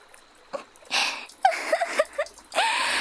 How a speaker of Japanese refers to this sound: 本当にやっちゃった。黄色く濁ったおしっこが澄んだ川に混じっちゃって汚しちゃってる。